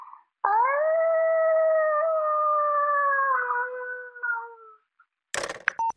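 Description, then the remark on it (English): A child's voice imitates a wolf in a submission to Earth Rangers' animal impersonation recordings, letting out one long, loud howl that holds steady and slowly sinks in pitch for about four seconds, followed by a brief noisy burst. “Here's my wolf impression.”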